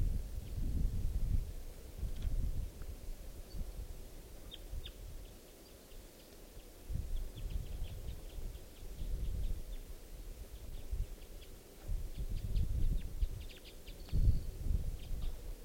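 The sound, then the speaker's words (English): Faint, scattered chirps from a wild bird perched in the trees above a net repeat, nearly buried under gusts of wind and rustling leaves that rumble loudly in waves. “and there's a wild bird perched in the trees above the net side.”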